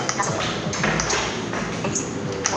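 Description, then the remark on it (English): Short, bright electronic phone chimes ring out a few times over a steady background hiss as a phone is unlocked, each ping crisp, with no one talking. “He's gonna unlock his phone.”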